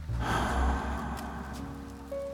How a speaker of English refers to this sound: In. And out. Concentrate on each breath.